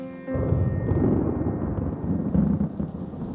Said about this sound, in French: Cette nuit, il a fait un orage terrible. Je me suis réveillée en sursaut. J'ai couru fermer la fenêtre. La pluie tambourinait sur les vitres.